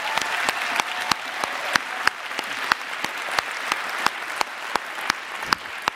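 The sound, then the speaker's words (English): A church audience applauds a former children's pastor steadily, a dense wash of clapping that holds for several seconds, with sharp individual claps popping out above it in a fairly regular rhythm. “Come on, give him an applause.”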